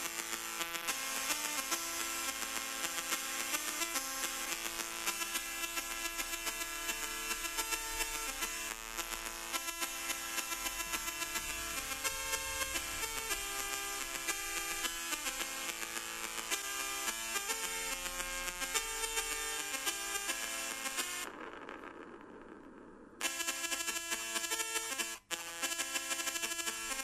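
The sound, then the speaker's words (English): Harsh, continuous 8-bit car engine buzz from the Ghostbusters computer game, which involved driving around a grid, on the Commodore 64; a loud droning chiptune tone thick with stacked harmonics, wavering slightly and briefly dropping out near the end. No voices. “And the sound of the cars, like this.”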